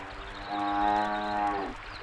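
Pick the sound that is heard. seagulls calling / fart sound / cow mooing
cow mooing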